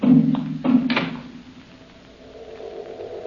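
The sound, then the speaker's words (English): A door shuts with a couple of quick wooden clunks and a latch click in the first second, then a faint steady hum lingers in an otherwise quiet room. “Close the door, and don't come back until I call you.”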